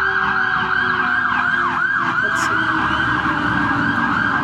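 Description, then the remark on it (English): Loud emergency sirens from a fire truck, an ambulance and a police car wail, rapid yelping sweeps rising and falling continuously over rumbling traffic and engine noise, as the vehicles pass in quick succession. “A fire truck, an ambulance went by, and a police car went by.”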